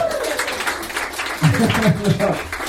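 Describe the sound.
An audience applauds with a steady wash of dense clapping throughout, and a voice begins talking over the applause partway through.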